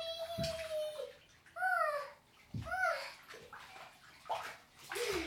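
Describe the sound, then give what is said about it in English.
Children splash and slosh water in a bathtub during bath time, with bursts of repeated splashing and bright high-pitched squeals and voices breaking in between the splashes. “Right, that's enough of that. The bath time is over.”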